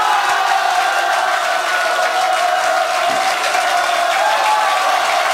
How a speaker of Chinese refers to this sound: 虽然你还没有听到这个秘密是什么，要不要先给这个最伟大的秘密热烈掌声鼓励一下？